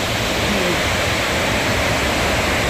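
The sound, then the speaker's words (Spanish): Steady, heavy rain leaks indoors through a classroom roof in Puerto Nuevo, a dense unbroken hiss of water that stays loud and even throughout, with no voices or other sounds breaking through. “Vea, se llueve más adentro que afuera, vea.”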